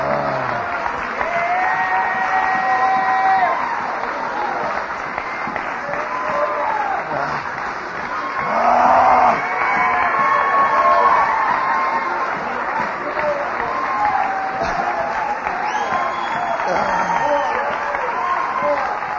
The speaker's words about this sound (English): Come on. Let's just stand and give the Lord a clap offering.